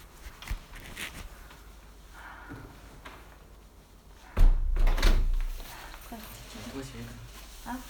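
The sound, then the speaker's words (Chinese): A door is opened partway through with a loud clunk and rattle lasting about a second, set against quiet background noise and faint, indistinct voices. “好了，我去开门了啊！”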